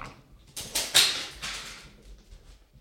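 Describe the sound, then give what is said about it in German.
A cat moving about: a few soft, breathy bursts of rustling and scuffling with a brief thin squeak among them, then quieter shuffling that trails off. No one speaks. “Das war übrigens gerade die Katze.”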